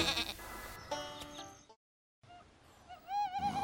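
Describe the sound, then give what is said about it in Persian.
Sheep in a barn bleat several times, their calls overlapping; after a brief pause, another quavering bleat rises and wobbles toward the end. “یه شب همه گوسفندا توی طویله خوابن.”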